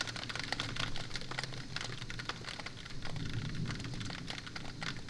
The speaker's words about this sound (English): I can still hear the thunder rolling. I wonder if we'll hear any loud booms.